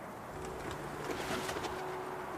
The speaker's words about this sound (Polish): Jesteśmy przy gołębniku. Wyleciały z niego przed chwilą gołębie, ale słychać takie gruchanie, więc chyba kilka sztuk zostało w środku.